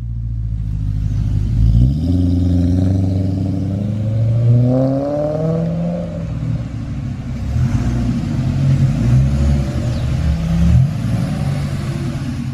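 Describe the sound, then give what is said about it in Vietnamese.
An old Native American man's truck approaches on a rainy night near the foot of a mountain, its engine rumbling steadily, the low drone rising and falling in pitch as it revs through gear changes, with rattling clatter underneath and no voices. “Thì ra có chiếc xe đang chạy tới. Đó là chiếc cam nhông của ông già dân da đỏ.”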